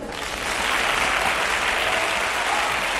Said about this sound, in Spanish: Nótese que el aplauso es desmedido. Él podría haber aparecido directamente en el escenario, pero no. Apareció desde atrás de la platea para que durante el paseillo la ovación fuera larga y unánime.